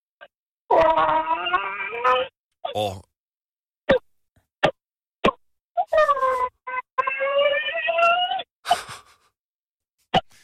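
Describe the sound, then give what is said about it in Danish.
A radio caller from Brovst imitates a hen over the phone for an animal-guessing game: two long, wavering, nasal calls with a string of short, sharp clucks and clicks between them, fairly loud and with no other talk. “Jeg tror, det er en høne. En høne er det rigtige svar.”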